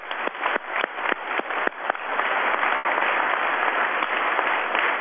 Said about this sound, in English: Let's give the retirees, please stand up and have a round of applause, because you are the people.